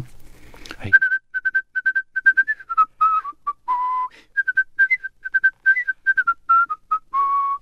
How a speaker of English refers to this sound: But you must live for that moment that, I'm just guessing, that Zubin Mehta conducts the New York Philharmonic and a whistler is asked to accompany him with Ravel.